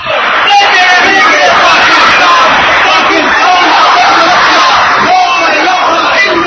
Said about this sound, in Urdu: پاکستان بنانے کی تحریک عروج پر تھی، ہر طرف جلوس نکل رہے تھے، لے کے رہیں گے پاکستان کے نعرے فضا میں گونجتے تھے.